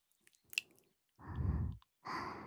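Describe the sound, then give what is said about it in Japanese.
A couple of soft, drawn-out breaths blown out by a maid very close to the ear, airy and hushed, preceded by a few faint wet mouth clicks. No speech. “先ほどからメイドの吐息が耳に当たるたび、背筋をゾクゾクと震わせておりますので”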